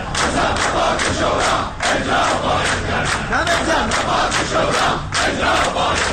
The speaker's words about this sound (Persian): انتقاد این عضو کمیسیون امنیت ملی مجلس از دولت در حالی صورت می‌گیرد که بازنشستگان در خیابان‌های شهر بر ازای سفره‌های خالی نشستند و برای احقاق مطالباتشان مصوبات شورای عالی کار را فریاد می‌زنند.